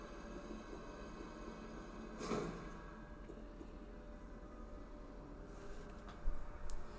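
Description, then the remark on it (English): A heavy video game door opens amid a low, steady rumble, with a thick creaking surge early on and a couple of sharper clanks near the end; no one speaks. “What would you think if they had that back in the Resident Evil 2 remake, assuming... Right. Doors.”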